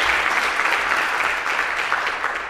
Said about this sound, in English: And I think another round of applause for all three of them.